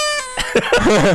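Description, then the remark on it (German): A brief, bright toy horn toot: one steady, buzzy, reedy tone lasting about a third of a second, followed by a wavering, warbling sound that rises and falls in pitch. “Trötengeräusch hier einfügen.”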